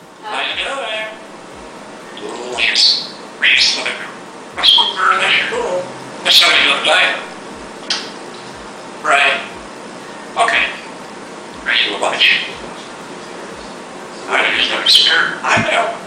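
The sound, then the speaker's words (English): A bird imitates the dialing tones of a cordless phone, dialing seven digits like a real phone: a series of short, bright beeps separated by brief pauses, fairly loud with no talking over them. “And wow, I just realized, the bird actually dialed 7 digits, like a real phone.”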